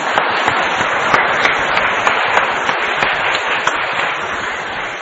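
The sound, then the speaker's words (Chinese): An audience applauds steadily to thank a professor, a dense wash of overlapping claps with occasional sharper individual hits, sustained at an even loudness throughout without any voices. “好，我们谢谢谢谢王教授，我们先掌声。”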